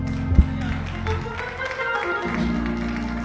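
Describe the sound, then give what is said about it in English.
An audience gives Jesus a hand clap over sustained low organ-like music, the hand claps forming a steady, scattered patter with one sharper, louder clap near the start. “Come on and give Jesus a hand clap.”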